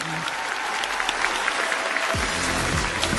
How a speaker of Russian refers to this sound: Давайте, давайте аплодисментами поддержим.